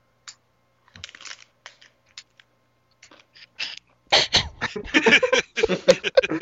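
Someone chews a crunchy chip: scattered crisp crackles at first, then a louder, dense run of irregular crunching bursts toward the end.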